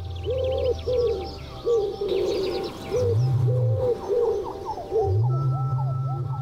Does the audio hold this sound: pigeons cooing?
yes